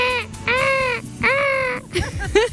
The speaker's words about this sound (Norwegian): Sommer er sånn som her, regn. Bølgeskvulp. Og måkeskrik.